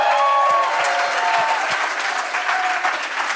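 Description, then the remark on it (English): A crowd at Cornerstone Church in Atlanta applauds steadily for Jamar Tisby, president of The Witness, a dense wash of clapping with a few whistles and cheers riding on top, holding loud throughout before easing slightly toward the end. “Jamar Tisby, y'all, give it up for Jamar.”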